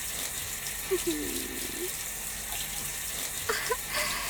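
Shower water runs in a steady, even hiss for the whole stretch as someone is rinsed off, with faint brief murmuring tones rising through it now and then.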